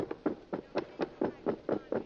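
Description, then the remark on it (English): Quick, evenly spaced footfalls of a company of soldiers running backwards, about nine dull thuds in a steady brisk rhythm, moderately loud with no voices over them. “Hey, I hear somebody running.”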